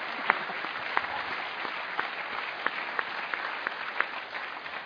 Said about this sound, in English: But also because he is actually celebrating his 40th wedding anniversary. That's got to be worth a round of applause, hasn't it? Congratulations.